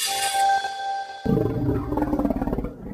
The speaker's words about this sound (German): Ja, so könnte er sich angehört haben. Der größte bekannte Dinosaurier der Welt. Ein friedlicher Pflanzenfresser. Er gehörte zu den Sauropoden, die alle einen kleinen Kopf auf einem sehr, sehr langen Hals hatten.